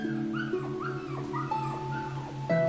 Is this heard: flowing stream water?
no